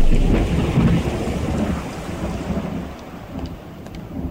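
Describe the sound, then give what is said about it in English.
Steady rain pours down with a dense, hissing wash, backed by a low rumble like thunder, continuous for the full few seconds with no voices. “It was raining and I was in a hurry, but even so, I should have realized.”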